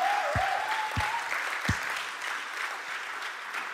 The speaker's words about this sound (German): Kommt, wir geben ihm mal einen großen Applaus.